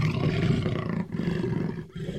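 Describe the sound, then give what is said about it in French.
A lion roars loudly, a deep, rumbling growl sustained for about two seconds with a brief dip in the middle, no voices present. “C'est le lion qui tourne en rond.”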